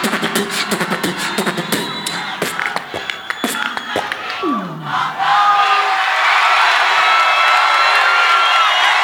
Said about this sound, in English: …, y'all. Give him a round of applause, y'all. ….